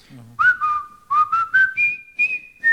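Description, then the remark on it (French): A clear, high whistled melody of the Colonel Bogey March, the music from the film The Bridge on the River Kwai: a run of short, bright notes stepping upward in a bouncy rhythm, after a brief low murmur at the start. “Tout le monde connaît la marche du colonel Boguet. C'était la musique du pont de la rivière Kouaï.”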